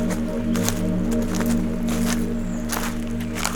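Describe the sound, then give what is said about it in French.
A small stream in a forest in the mid-mountains flows steadily, its continuous burble punctuated by brief splashy bursts, with no voices present. “Un petit ruisseau.”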